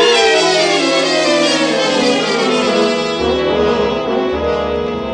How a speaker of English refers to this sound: A squad car, Muggerman, for Paul, with a siren.